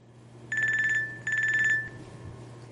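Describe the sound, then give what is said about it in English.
A telephone rings twice, each ring a short burst of bright, rapidly trilling electronic tone, clear, with a faint low hum in the background and no voices. “Hi, I'm calling from a battery-free cell phone.”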